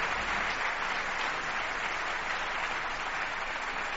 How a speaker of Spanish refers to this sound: bueno, qué ovación.